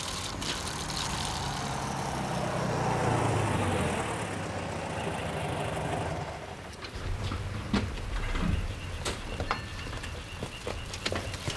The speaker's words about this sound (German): Als der Wagen auf das Grundstück der Familie Andrews einbog, fuhren Justus und Peter so nah wie möglich an das Haus heran.